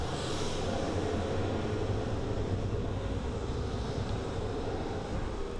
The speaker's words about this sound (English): And then we've got jet flybys. So we can have jets sound like they're circling through.